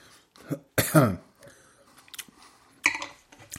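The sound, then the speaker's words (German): A person clears their throat in a few rough, gravelly bursts, fairly loud, with short pauses between and a final sharp rasp, no speech; something is bothering their palate. “Achtung, Räuspertaste.”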